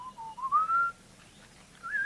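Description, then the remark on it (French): A melodious human whistle used by honey hunters in Tanzania and Kenya to attract a honeyguide bird and keep contact with it while following it: two rising, warbling phrases separated by a brief pause, clear, with no talking. “Et les chasseurs Rasda en Tanzanie, comme les chasseurs Borana au Kenya, utilisent un sifflement particulier pour attirer l'oiseau et pour maintenir le contact avec lui pendant qu'ils le suivent. C'est un sifflement mélodieux.”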